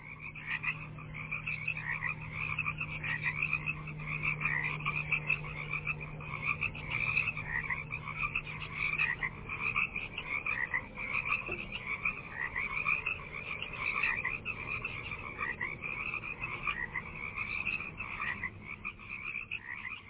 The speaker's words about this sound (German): Mit Fröschen, also zyklisch zu bestimmten Jahreszeiten wiederkehrenden, klar erkennbaren Klängen aus der Natur, ließ Murray Schafer, der Begründer der Klangökologie, seinen Appell für eine Gestaltung auch unserer akustischen Umwelt auf der Doppel-LP